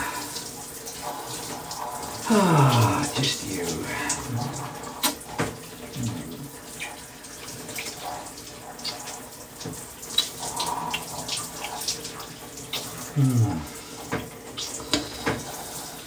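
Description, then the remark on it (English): Steady rushing water pours continuously like a shower spraying onto a person, with occasional splashes and a brief murmured voice over it. “A little bit of water cascading down me.”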